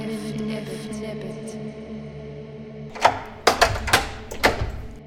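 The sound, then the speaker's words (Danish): A low, steady droning resonance gives way to four or five sharp knocks or claps, made to show the echo, each ringing out with a lingering echo that rolls around the corners from one hall to the next. “Prøver at vise jer et ekko, hvordan lyden herinde runger rundt om hjørnerne fra den ene sal til den anden, der runger min lyd.”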